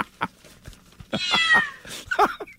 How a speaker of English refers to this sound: Hey, well, you know, I lit a candle, and all of a sudden, I got all the stray cats in the neighborhood outside the window.